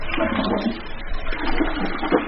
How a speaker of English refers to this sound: Didn't think we'd get through this whole story without hearing at least one flush, right?